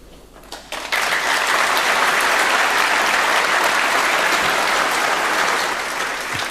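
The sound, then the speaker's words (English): A large audience breaks into sustained applause at the end of a talk after a brief quiet start, the clapping dense, loud and steady for several seconds, easing only slightly toward the end. “No, we've applauded now.”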